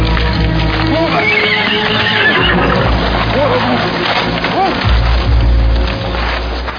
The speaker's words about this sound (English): Stop that horse.